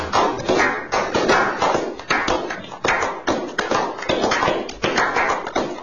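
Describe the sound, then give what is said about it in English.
A show audience, after holding its applause, applauds steadily for about six seconds as a guest is introduced: a dense crackling wash of many hands clapping at once, swelling and dipping slightly in loudness without any voices. “I know you've held your applause. Now you get a chance to cut it loose.”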